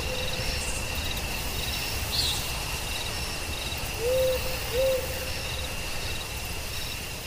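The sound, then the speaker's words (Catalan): Two short, soft owl hoots in quick succession rise above a steady nighttime chorus of chirping crickets and insects, with no talking. “No els espanten a la nit ni l'udol del mussol ni les dents del llop.”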